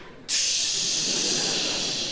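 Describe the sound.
A voice imitates a lorry's air brakes as it pulls up on a gravel drive outside a house in Solihull: one sudden, loud, sustained hiss of bright breathy noise that begins abruptly and holds steady for nearly two seconds.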